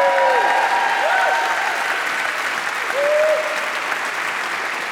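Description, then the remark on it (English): Sustained audience applause at Union Chapel for the production team, a dense steady wash of clapping at constant loudness throughout, with a few faint tonal whistles or cheers riding over it. “A round of applause for our production team, please, over here.”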